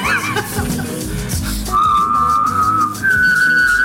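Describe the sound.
A person whistles a steady tone while humming a low note underneath, the two sounds layered together in one sustained, slightly wavering performance with no talking.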